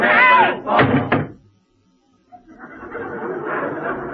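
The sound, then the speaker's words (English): A heavy wooden crate lid is slammed shut, loud, with a quick double impact, then a brief silence before a low, muffled murmur of background noise rises. “Mary, slam down the lid!”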